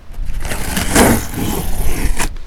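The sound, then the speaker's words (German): A cardboard box holding a toilet is handled and turned over, giving a steady, loud scraping and rustling with a brief thicker scuff near the middle. No one speaks. “Hier ist der Karton. Der ist gar nicht so groß. Einmal umdrehen.”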